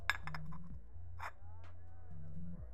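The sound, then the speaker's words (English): A cup is set down with a short, bright ceramic clink, followed by a couple of softer knocks and a faint rustle, all over a low, steady background hum. “Here's your cup.”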